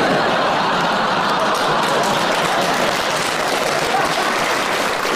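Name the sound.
smattering of applause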